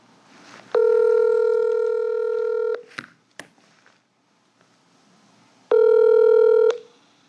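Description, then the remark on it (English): A phone call to a nurse's cell phone ringing out: a long, steady electronic ring tone, a few brief clicks in the pause, then a second shorter ring. Loud and clear, with no one speaking. “I'm about to call a nurse who worked on the COVID unit but is off today, and so I'm going to try her on her cell phone if she picks up.”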